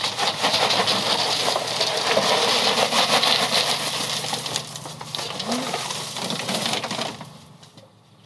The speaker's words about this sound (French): La personne que vous entendez nourrir ses moutons, c'est Mylan.